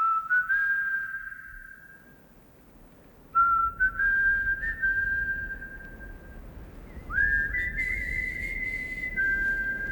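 A whistled melody of a rock ballad in three long, sustained phrases with gliding notes, heard fairly clearly over a low, rumbling outdoor background, with no one talking.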